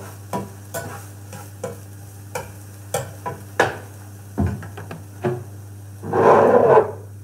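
Food being stirred in a frying pan, with repeated scraping strokes at an uneven rhythm over a steady low hum, ending in a louder, longer sizzling scrape.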